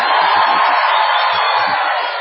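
A large crowd of people inside a tent shouts together on cue in a loud, sustained roar that holds steady for about two seconds. Many voices blend into one dense wall of noise.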